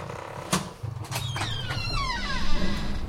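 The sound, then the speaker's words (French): The door of a commander's cabin opens: a sharp latch clunk, then a drawn-out, wavering creak of the hinges lasting a couple of seconds over a low background rumble, with no voices. “Ouvrez la porte !”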